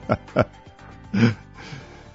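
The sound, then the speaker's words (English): Snoring sounds: two quick snorting breaths in a row, then a longer, louder, rumbling snore with a low throaty buzz, followed by quieter breathy noise. Nobody speaks. “And with that, in between the snoring sounds,”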